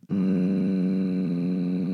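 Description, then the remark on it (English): A person makes a long, steady, raspy throat breath during yoga breathing practice, a hoarse constricted exhale like ocean waves or a zombie's groan, loud for about two seconds with no talking. “He used to call them ocean sounds. I call them like zombie sounds.”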